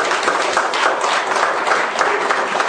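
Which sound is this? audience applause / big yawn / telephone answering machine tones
audience applause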